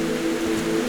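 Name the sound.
small waterfall splashing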